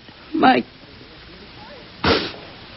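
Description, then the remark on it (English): Two loud, sharp gunshots ring out about a second and a half apart, each a brief noisy crack over a faint hissing background with nothing else in between. “A hand with a gun.”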